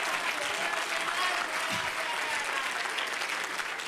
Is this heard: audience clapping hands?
yes